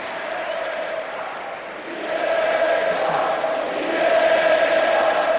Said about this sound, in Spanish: Gritos de Iniesta, Iniesta, la emoción en el Camp Nou y la emoción también en el Metropolitano.